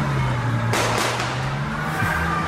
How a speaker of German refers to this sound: Und zwar ziemlich lautstark, was bei einer Hochzeit ja noch verständlich ist, würde ich sagen. Wir hören mal rein. So laut. So laut. Ja. Quietschende und qualmende Reifen sind auf dem Video zu sehen